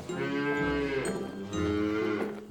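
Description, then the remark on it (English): A cow at a farm's cow barn moos twice in long, loud bellows, the second starting right after a brief pause, with no talking over them. “Just beyond that is the cow barn.”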